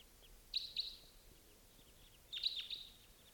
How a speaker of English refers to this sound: Here comes a bird.